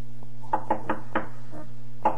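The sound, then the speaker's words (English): Loud knocking on a door at night, on the night before the last day of Pesach: about half a dozen sharp raps in a quick, slightly uneven run, then a pause and one final knock, over a steady low hum. “suddenly he heard a loud knocking on the door.”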